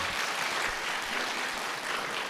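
An audience applauds steadily, a dense wash of many hands clapping at an even, sustained level throughout with no voices standing out.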